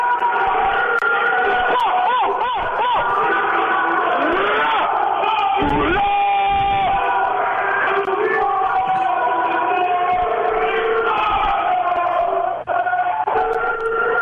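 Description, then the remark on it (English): A loud, chaotic din of many jail inmates at Bordeaux shouting and hollering at once, rising and falling pitched yells layered over a constant crowd roar, with no clear speech standing out. “Yo, you guys wanted some background noise from Bordeaux?”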